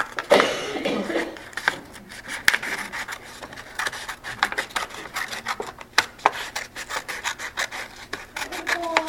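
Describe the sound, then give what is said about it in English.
Scissors snip steadily through a paper Möbius strip, cutting it lengthwise into three, a string of crisp, irregular cuts mixed with dry crinkling and rustling as the paper shifts. No one speaks. “Now, what if you tried to cut it lengthwise into three?”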